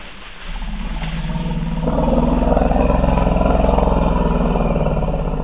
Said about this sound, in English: Peter was listening for elephants, and specifically for that different kind of elephant sound